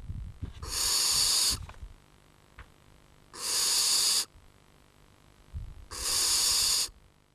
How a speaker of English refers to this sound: And we'll talk to a Mayo farmer who heard this snoring sound on his farm.